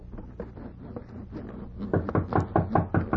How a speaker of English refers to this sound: Hark. Someone knocks.